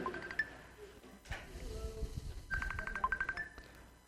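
phone ringing

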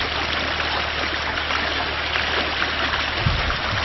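flowing creek water

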